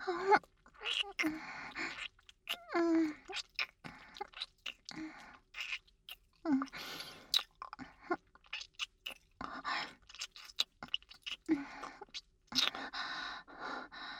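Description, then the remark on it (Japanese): Soft, wet kissing sounds, lips gently pressing together and parting in an irregular series of smacks over about fourteen seconds, with faint breaths and quiet murmured voice sounds between them. “そんな風にそっと唇を重ねられると。”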